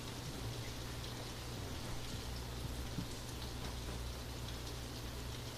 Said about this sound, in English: now the rain is up. Yeah, now the rain's up.